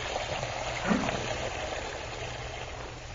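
A tap turned on at full force runs, a steady rushing hiss of water that stays loud and unbroken for a few seconds, with no voices.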